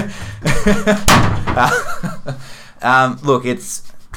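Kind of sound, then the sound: sound effect, door slamming shut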